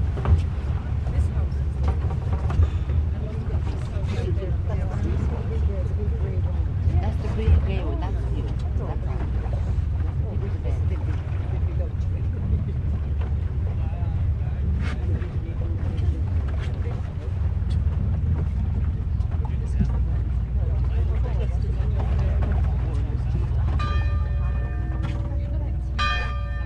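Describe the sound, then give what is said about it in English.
A boat carrying pilgrims from the mainland to the island of St. Patrick's Purgatory: its engine drones steadily beneath wind and rushing water throughout, with faint murmuring voices in the background and a few bell-like chimes ringing near the end. “Pilgrims get on the boat and immediately they have left. They have left the mainland.”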